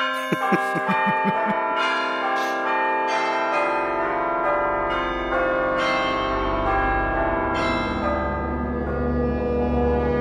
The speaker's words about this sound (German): Hat es gerade bei dir geläutet? Ja. Es ist ja 4:45. Da muss es ja läuten, natürlich.